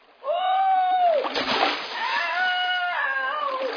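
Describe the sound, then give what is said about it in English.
A sharp, noisy splash of a person falling into water, set between loud drawn-out cries and exclaiming voices. “fallen in.”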